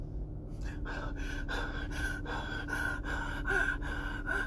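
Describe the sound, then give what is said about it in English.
A voice imitates heavy, loud mouth breathing: a steady series of about eight rhythmic, raspy, prominent breaths, with no talking. “I don't understand why everybody breathes so loudly.”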